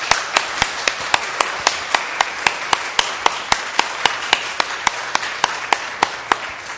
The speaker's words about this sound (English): I think she deserves a big round of applause at least.